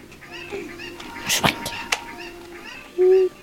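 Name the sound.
chicken vocalizing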